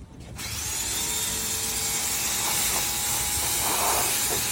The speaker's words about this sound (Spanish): Raza, nos tocó el carro más difícil de nuestras vidas. Enjuégale, porfa.